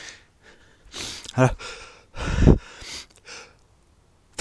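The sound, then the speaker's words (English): A quick run of sneezes in a garden in England: sharp breathy bursts with a couple of loud, strained ones in the middle, separated by short pauses and softer intakes of breath. “I do apologise, I have a run of sneezes.”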